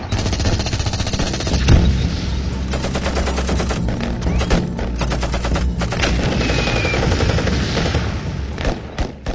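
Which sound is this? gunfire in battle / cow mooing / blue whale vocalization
gunfire in battle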